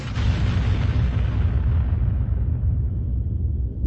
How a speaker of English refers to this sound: The targeting computer beeped to indicate it had a lock. Isval fired, and the cannons loosed lines of hot plasma.